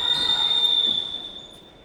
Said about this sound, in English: Whistle on the play. Elbowing by Ella. Elbow called on King Cove there.